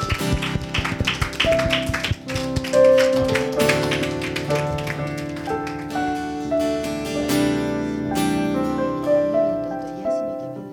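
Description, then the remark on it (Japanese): An audience at a worship service claps and applauds in praise to the Lord over sustained keyboard music, the sharp, steady clapping spread across the whole stretch with no voices standing out. “主に拍手を捧げましょう。”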